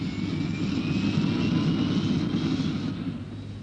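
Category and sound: vehicle, airplane engine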